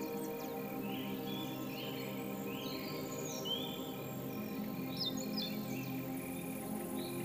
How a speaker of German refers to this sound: Überall zirpt und zwitschert es. Auch die kleinen und großen Bewohner dieser Breiten fühlen sich hier am wohlsten.